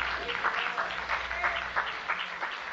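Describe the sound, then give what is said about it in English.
An audience gives a hand clap: steady overlapping hand claps forming a dense, continuous wash of clapping at moderate volume, with a few murmured voices underneath. “Give him a hand clap if you think he can do that in your life.”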